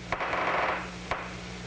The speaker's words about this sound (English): That's David Hubel's original recording. It sounds kind of like staticky gunfire, but it's actually the sound of nerve cells in the brain.